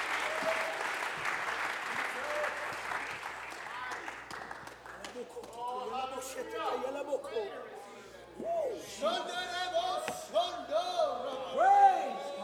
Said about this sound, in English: Clap your hands all over this house. Aplauden sus manos en este lugar.